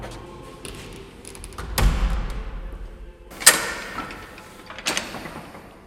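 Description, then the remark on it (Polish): Old printing presses creak and clunk in a printing museum housed in the Supraśl monastery buildings, with three heavy mechanical thuds spaced a second or two apart over a low, steady rumble of machinery. No one speaks. “Dziś skrzypienie drukarskich maszyn można usłyszeć w Muzeum Sztuki Drukarskiej i Piśmiennictwa, które mieści się w zabudowaniach supraskiego monasteru.”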